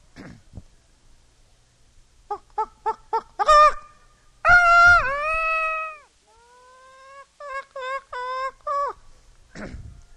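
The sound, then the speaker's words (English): A man's voice imitates barnyard fowl calls, running through a quick series of clucks, a long wavering squawk, then choppy gobbling calls, loud with short pauses between bursts. “I'll start out with the barnyard side, the fowls, the birds.”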